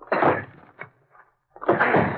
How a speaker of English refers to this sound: Easy now. You'll have to force the door.